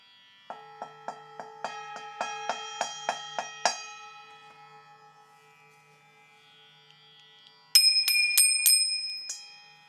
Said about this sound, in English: The simplest closing prayer is the Shanti Mantra. Om Shantihi, Shantihi, Shantihi. And the ringing of the bell.